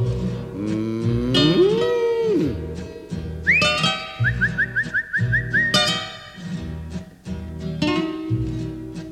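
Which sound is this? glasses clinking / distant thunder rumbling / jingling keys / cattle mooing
cattle mooing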